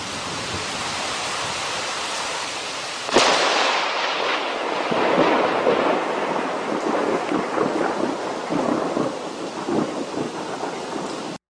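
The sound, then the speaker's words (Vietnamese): Heavy storm rain pours steadily in the evening over a forest where an abandoned hut stands, then a sharp thunderclap cracks and rumbles on, the downpour roaring continuously with no voices present. “Tối đến, vừa lúc chúng tôi tìm được một cái chòi bỏ hoang nằm ẩn trong rừng, thì cơn mưa bão cũng vừa đổ ập xuống.”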